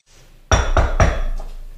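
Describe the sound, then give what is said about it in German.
Three quick, heavy knocks as a portafilter is banged against a knock box to empty the coffee grounds. The thuds are loud and solid with a slight metallic ring fading after the last one. “Oder die Knockbox.”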